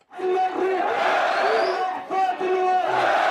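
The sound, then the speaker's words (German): A large crowd cheers and chants loudly in unison for Abdul Basset Asarut, the young Syrian national football player who became the face of the 2011 uprising against Assad, many voices shouting together in a steady, rhythmic roar that barely dips for the whole stretch. “Die Menge jubelt Abdul Basset Asarut zu.”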